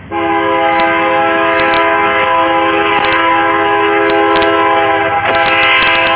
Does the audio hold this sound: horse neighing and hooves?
no